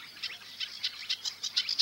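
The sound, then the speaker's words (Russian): Sedge warbler song from a bird flitting about a small willow bush: a quick, uneven run of high, scratchy chirps and trills repeating every fraction of a second, fairly quiet, over a soft low hum with no voices. “Рядом на ивовом кустике перелетает с песней камышовка-барсучок.”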